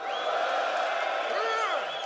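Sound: men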